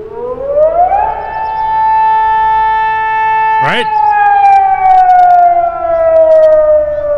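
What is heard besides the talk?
air raid siren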